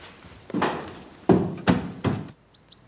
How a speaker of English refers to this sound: The Duke stomps up some steps.